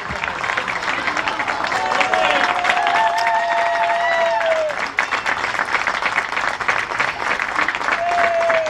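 Sustained applause from an audience for the winner of the 25th edition of the concurs de mestres xatonaires (a xató-making masters contest), a dense steady patter of many hands clapping for several seconds, with a few whistles rising and gliding over the noise.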